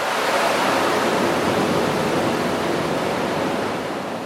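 A loud, steady roar of rushing water pours through hydroelectric turbine generators at a pumped-storage station in New England, water flowing into the turbines at 27,000 gallons a second, each generator producing nearly 400,000 horsepower. A dense, unbroken wash of noise holds constant throughout and eases only slightly at the end. No voices.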